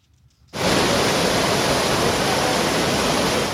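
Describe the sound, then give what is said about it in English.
After a brief quiet moment, a loud, steady roar of rushing water kicks in and continues without pause: a swollen river in Pakistan's northwest Swat Valley after a flash flood and heavy monsoon rain. “Local residents looked on at the still swollen river as nearly 100 rescuers searched for the missing.”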